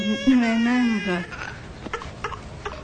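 A child wails in a sustained, wavering cry for about a second, fairly loud, followed by quieter shuffling and a few soft knocks.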